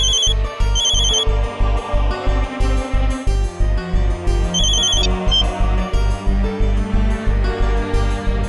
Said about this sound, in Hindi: Phone लग गया लेकिन उठा नहीं रहा फोन।